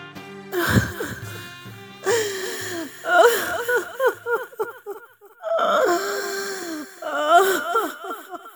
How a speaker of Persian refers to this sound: چه شده است ام سلمه؟ برای چه گریه می کنی؟